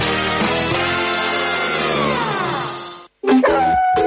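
A dog lets out a long, sustained howling cry, then after a brief pause gives a few sharp barks in quick succession, loud and with no talking.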